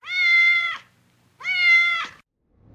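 A male cat meows twice, two drawn-out, clear cries of nearly a second each separated by a brief pause, with no voices around them.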